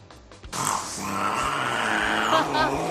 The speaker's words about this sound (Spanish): El gato que imita una moto.